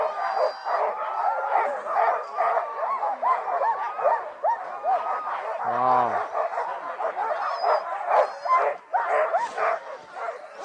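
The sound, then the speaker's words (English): A loud, continuous chorus of many harnessed sled dogs barking, yipping and whining over one another before pulling a sled, with no pause; a person briefly exclaims partway through. “So yeah, dogs are like, this is what it sounds like.”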